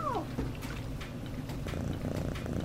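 A cat gives one short, falling meow, then purrs steadily and fairly loudly, a low rumbling drone that continues to the end with no talking.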